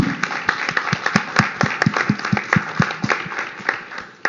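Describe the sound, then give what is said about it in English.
A short round of applause with a steady, rhythmic beat, several sharp claps per second sounding together at a fairly even volume for about four seconds, with no speech over it. “And I think we should give Robert a round of applause.”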